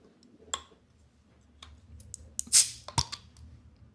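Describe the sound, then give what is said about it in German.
A few small clicks and taps, then a short, gentle fizzing hiss as a green bottle of Obru strong beer is opened, followed by another sharp click. Quiet overall, with no talking. “Das ist ein zartes Bierchen. Das ist nicht so aufdringlich, das Geräusch.”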